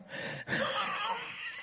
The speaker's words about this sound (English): Pardon me, I've got a cough.